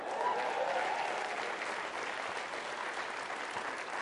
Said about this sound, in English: Y'all clapping, you don't even know why yet.